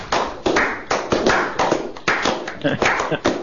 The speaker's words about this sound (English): Show him how much you miss not having him in the studio. Come on, folks. Show him with a great big round of applause